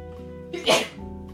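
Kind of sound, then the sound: human body sound, sneeze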